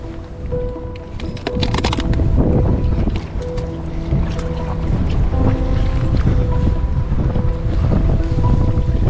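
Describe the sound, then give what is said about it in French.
Steady wind buffets the microphone on an open fishing boat during lure fishing, with a dense rumbling roar, water sloshing and occasional creaks and thin tonal whines from the hull and gear, loud and continuous throughout. “Le vent s'est levé, j'avais du mal à sentir le leurre souple.”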